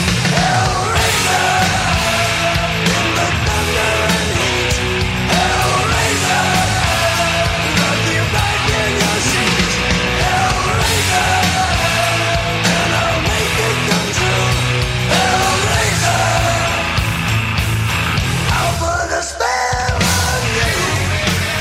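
A heavy metal rock song plays loud and dense, with distorted guitars, pounding drums and gruff, shouted vocals, the wall of sound dipping briefly near the end.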